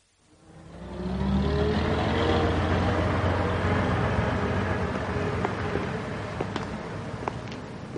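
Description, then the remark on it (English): A bus engine rumbles up from quiet and holds a steady drone, with low tones shifting as it drives along and a few small rattles and clicks near the end; the earlier bus out of town. “A good job we got the earlier bus, or we'd have been stranded in town.”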